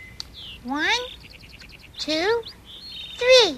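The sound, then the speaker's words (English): Four newly hatched baby birds chirp in a nest: bursts of high, rising squeaky peeps come in three clusters, with quick rapid twitters between them, fairly loud. “Oh, my babies have hatched. I'll count them.”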